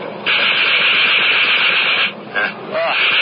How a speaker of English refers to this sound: I'm going to try the guns. These are new to me.